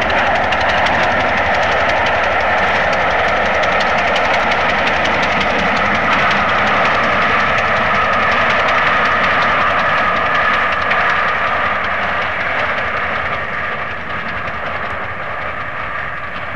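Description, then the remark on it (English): A steam locomotive runs through Reading, loud, with a steady rhythmic exhaust beat and an odd extra tick on each beat, caused by the back left-hand steam chest cover coming adrift, over a continuous roar of wheels and rails. No voices. “You can hear this peculiar tick on the beat of the locomotive as it's running.”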